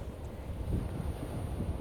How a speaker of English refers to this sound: See, it's so nice and quiet here. Just the sound of the waves. The rocking of the hammock. The wind blowing. A few seagulls.